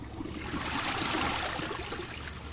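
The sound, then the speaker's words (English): A dual-flush toilet flushing on its reduced half-flush setting of 0.8 gallons to flush tennis balls, potatoes and rubber duckies, a steady rush and gurgle of water that holds at an even level for a couple of seconds with no voices. “To prove how well they work, Matt's just using the 0.8-gallon flush.”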